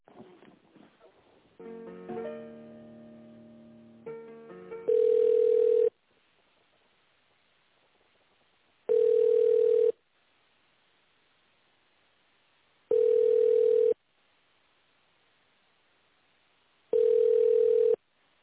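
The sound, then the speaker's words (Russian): A burst of mixed electronic telephone tones, then four long, steady mid-pitched ringing tones, each about a second long, repeating every few seconds over a quiet line while the call is put through. “Секунду, я вас переключу, потому что мы не можем ответить на вопрос.”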